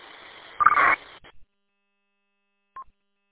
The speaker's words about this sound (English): I got a BeatTech UV Pro. And it worked with my cell phone Bluetooth, but it has features that I'm not accustomed to. One of them is putting a data burst at the end of my transmission.